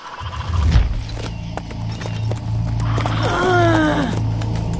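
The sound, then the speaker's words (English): Horse hooves clip-clop in a steady, moderately paced rhythm, distinct, with a low rumbling background and a brief drawn-out tonal cry near the end, as the horse carries a captive tied under its belly. “Dean was jolting along on the back of a horse, his wrists tied to his ankles, under the animal's belly.”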